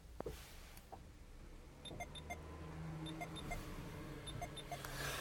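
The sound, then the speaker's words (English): A car stereo bleeps after the engine is switched off in a nearly empty parking area at night: short, high electronic chirps in small irregular clusters, fairly quiet against a low, steady cabin rumble, with no one speaking. “Engine off, stereo bleeps.”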